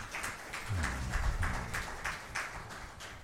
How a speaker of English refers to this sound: save your God a hand clap of praise.